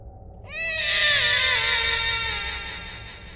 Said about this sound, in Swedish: Ett barn skrek högt.